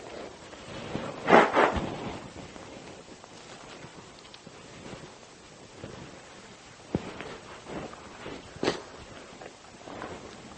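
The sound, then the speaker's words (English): A forceful, noisy nose blow bursts out early on, followed by a few shorter, softer snorts and sniffs against a quiet, breathy background with no talking. “Excuse me, I'll blow my nose, and that'll be it.”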